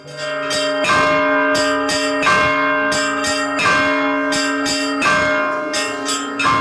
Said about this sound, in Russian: Научиться звонить в колокола и ходить звонить, и ребята сейчас вот ходят, звонят.